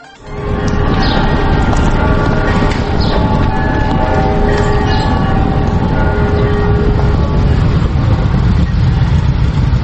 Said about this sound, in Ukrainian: Провулками лаври мчать півсотні потужних мотоциклів. Над колоною майорять церковні хоругви, українські та російські державні прапори.